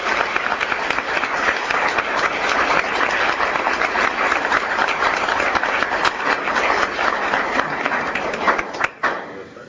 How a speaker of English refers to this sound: because of the legislative efforts of Senator Alting, Representative Klinker, and Truitt, and I just want to give them a round of applause for their help.